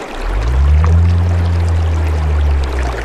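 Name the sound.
river water flowing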